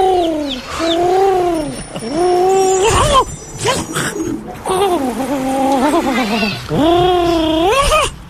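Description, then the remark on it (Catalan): A pigeon at Plaça Catalunya coos loudly, picked up by a microphone: a series of throaty, rising-and-falling phrases repeating one after another for several seconds, with no talking over them. “I que poseu micros als coloms.”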